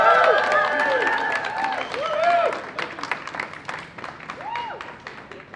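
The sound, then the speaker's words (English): A crowd of Parks Victoria workers bursts into sustained applause for outstanding delegates, dense steady clapping with a few rising whoops and cheers over it, gradually thinning out toward the end. “let's give them a very warm round of applause.”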